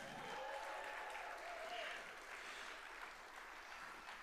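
An audience applauds the second-place finishers, clapping steadily throughout, a dense wash of many hands at even loudness, with faint whoops or cheering voices rising briefly early on.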